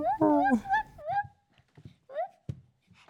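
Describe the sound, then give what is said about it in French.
High-pitched voices mimic a dog, with a cluster of yapping barks and whiny whimpers in a few short bursts, fairly loud, plus one sharp knock near the end. “ils aboient comme des petits chiens.”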